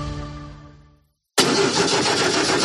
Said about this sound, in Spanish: Así suena el motor de un coche mal cuidado.